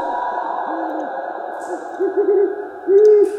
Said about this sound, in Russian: Всемогущий Аллах! Да здесь сова! Сова? Просто сова!